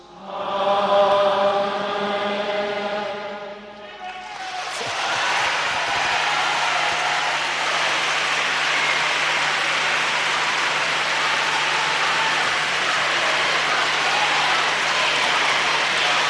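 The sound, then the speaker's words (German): A sustained sung note from voices gives way after a few seconds to loud, dense applause from a large crowd at Castel Gandolfo, the Pope's summer residence, a steady roar of clapping that continues unbroken to the end. “Jetzt lebe der Papst und tosender Applaus, den die Menge-Inhalt von Castel Gandolfo, der Sommerresidenz des Papstes, an der sich ja immer noch befindet.”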